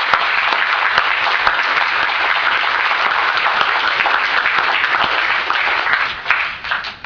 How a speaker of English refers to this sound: Welcome, everybody, and let's actually begin with a big round of applause for the graduating class of 2009.